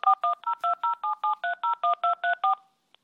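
telephone number being dialed

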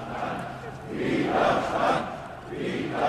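protest crowd chanting

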